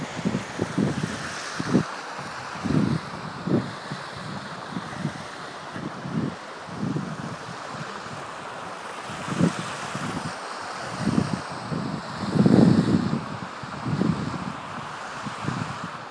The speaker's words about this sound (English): I'm going to walk down the Cascade slightly. As you walk down, you'll hear the water change because each of the steps are designed, so there's different steps for each time you walk down. That gives you the sound of a waterfall.